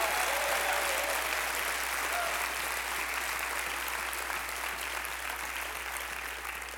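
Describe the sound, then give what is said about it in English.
An audience at a church service applauds for Jesus with sustained, dense hand clapping that stays steady and loud throughout, tapering only slightly at the end, with no voices standing out. “Now give Jesus a big hand clap.”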